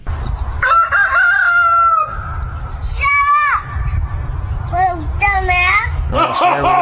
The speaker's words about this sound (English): Many people ask, does your grandson like the rooster crowing early in the morning? Here's your answer.